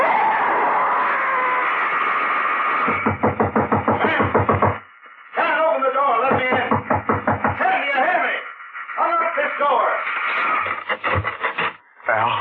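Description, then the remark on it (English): A woman knocks at a door in rapid, loud bursts, several quick series of raps separated by short pauses, over a steady murmuring background noise. “She was knocking at the door.”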